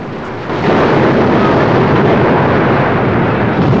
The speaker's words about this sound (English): Spray thunders over the Bounty, and a cage containing a pig is swept away by gushing water. Buffeted and rocked by the stormy sea, foaming water gushes over the deck. A man grabs a rope just in time to avoid being swept away by another heavy surge.